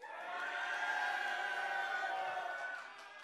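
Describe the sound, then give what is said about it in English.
A crowd cheers and yells wildly, many voices blending into a loud sustained roar that holds for a few seconds before trailing off at the end. “I mean, this is like cheer and yell loudly and wildly to kind of push back darkness.”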